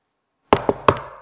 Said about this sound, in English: And he can't wait to get in there as he's knocking on the door. And she hears him.